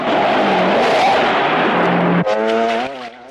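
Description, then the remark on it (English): A patrol car engine roars loudly as Teasel chases Rambo through a forest in the film, then a sudden sharp crunching impact as the car smashes through a wooden gate, the engine whining on right after. No voices. “Teasel crashes through a wooden gate in the patrol car.”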